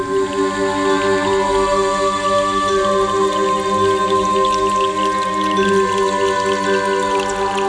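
Water trickles and drips steadily down stone walls from small springs in the stone, fairly loud, with a sustained ringing tone humming underneath throughout and no voices.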